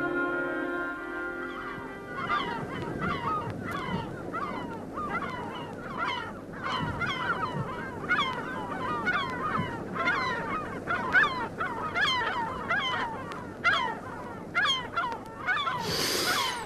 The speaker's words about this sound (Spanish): aquella tarde abandonó los atestados muelles del Puerto Nuevo y se dejó caer por la playa, a solas con las gaviotas, digo, con las gavinas.